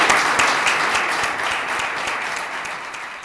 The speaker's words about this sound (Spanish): Ruego un fuerte aplauso para ellos.